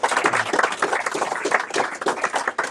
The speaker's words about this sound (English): Let's give them a round of applause before I keep going.